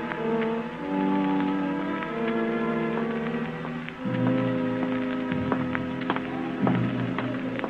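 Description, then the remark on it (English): Steady rain patters continuously in the background, a soft hiss with scattered drips, while sustained orchestral music plays prominently over it. “I walked a long time in the rain while the storm out inside me settled down the same steady rhythm as the raindrops.”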